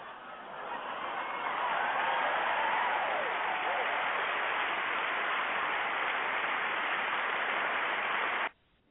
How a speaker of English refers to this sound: And I am clapping for you, brother. I'm clapping for you.